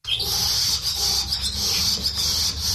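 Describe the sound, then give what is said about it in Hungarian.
Returning swallows chirp and twitter under the eaves in Hungary in a busy, continuous, overlapping chorus of high, thin calls over a low steady background rumble, with no speech. “Hazatérő fecskék csivitelnek az eresz alatt.”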